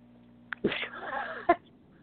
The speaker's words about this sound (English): I'm coughing. I think I have COVID-19.